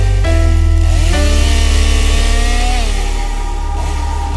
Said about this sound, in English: Then we hear the chainsaw.